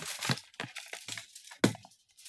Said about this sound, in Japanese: ちょっとフローリングの上に今アルミホイルを敷いたので、これでちょっとアルミホイルの写真を一回、よいしょ。